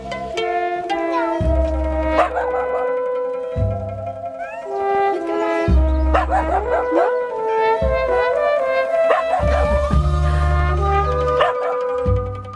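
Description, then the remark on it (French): Several dogs bark and howl together in a sustained chorus, long wavering howls overlapping with sharper yips and barks, loud throughout with no talking. “Les Italiens aiment particulièrement les animaux de compagnie, ce qui n'empêche pas la multiplication de chiens errants dans les villes.”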